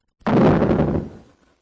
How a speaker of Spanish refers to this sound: Cuando todos habían entrado, Dios mismo cerró la puerta.